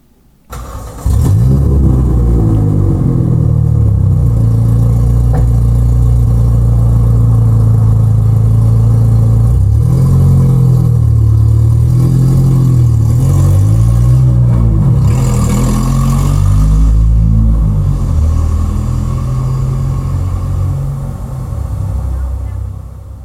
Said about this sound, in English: It's a marvelous place to listen to music or trucks passing. So let's go find the truck and see what it sounds like.